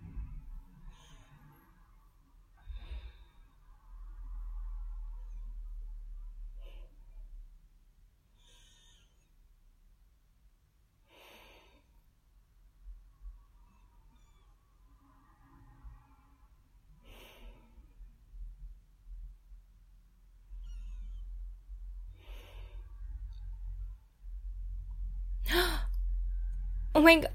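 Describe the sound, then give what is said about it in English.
A person softly imitates a cat's purr, a low, breathy rumble that fades into quiet breaths, then swells again near the end, capped by a brief rustling burst. “Oh my god, did you just purr?”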